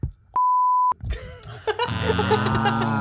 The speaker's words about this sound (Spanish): el nombre y ponemos el pitido.